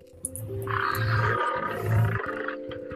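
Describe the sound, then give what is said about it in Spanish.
A lion roars loudly, two deep rumbling bursts swelling and fading over a few seconds, with no talking. “Otras veces, imagino que soy un fiero león.”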